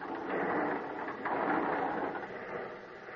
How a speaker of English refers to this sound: At the top, I had to open a heavy sliding door.